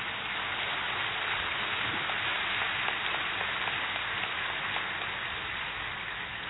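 Loud, dense clapping from a crowd holds a steady roar for several seconds, countless overlapping claps blurring into a continuous patter with no voices.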